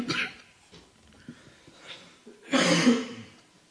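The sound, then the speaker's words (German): A fairly loud cough bursts out near the end, preceded by a shorter rough throaty sound at the start and quiet breathing in between. No one speaks. “Tut mir leid für den Husten.”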